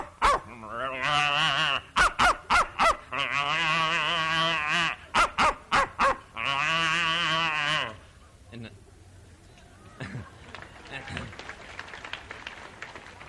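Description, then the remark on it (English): A man's voice imitates a dog being set on a cow, with drawn-out mooing lowing broken by rapid, loud barks and yips, before trailing off into quieter scuffling noises and faint talk. “But anyway, I stick the dog on the cow, and then I'll mix it all up and just keep going.”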